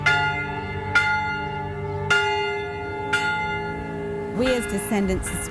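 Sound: church bell ringing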